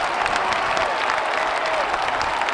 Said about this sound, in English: I take it back. I'm done with sound effects. All right. We should just use the clap one, because Mike needs applause, apparently.